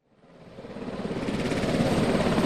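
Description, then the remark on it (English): A Washington National Guard Black Hawk military helicopter in flight from Joint Base Lewis-McChord to Shelton Airport over Puget Sound, during an earthquake and tsunami drill. Its engine and rotor noise swells up from near silence into a loud, steady roar with a rapid rhythmic chop running through it. “We climb aboard Black Hawk helicopters at Joint Base Lewis-McChord and take off for the Shelton Airport.”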